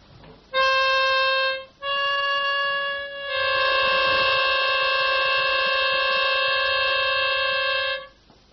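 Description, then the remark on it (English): A sustained reedy tone sounds, breaks off briefly, then resumes as a second tone joins it. The two play together for several seconds in a harsh, clashing, beating dissonance before stopping. “Now, if you listen very carefully, you will find that the quarrel is between the tones themselves.”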